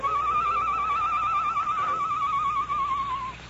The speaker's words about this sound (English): Shortly after the sheriff and the Perrys had left the Lone Ranger's cell, he heard the low call of a night bird outside the barred window.